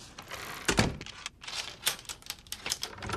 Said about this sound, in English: She reluctantly takes the chain off the door.